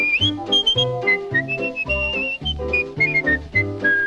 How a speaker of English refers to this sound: Then wiggle your finger, put it on your nose, grab your ear and whistle.